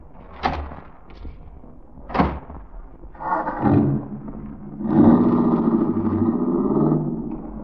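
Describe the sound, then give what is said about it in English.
Two solid car door thunks a couple of seconds apart, followed by a car engine starting up and settling into a steady, rumbling idle with no voices. “My car is right out front.”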